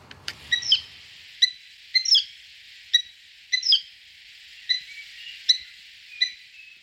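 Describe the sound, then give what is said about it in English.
An old peat barrow's squeaky wheel, in need of oil, squeaks over and over, about nine shrill, high-pitched squeals in a loose, uneven rhythm, with no voices or other sounds. “It's an old peat barrow that's in need of some oil for its squeaky wheel.”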